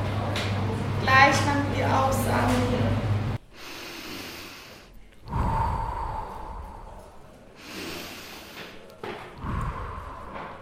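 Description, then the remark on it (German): Slow, deep yoga breaths drawn in audibly during a breathing exercise, three long airy inhalations in a row after a short voiced passage, steady, with brief pauses between them. “Lass den Atem gleichmäßig werden. Die Einatmung.”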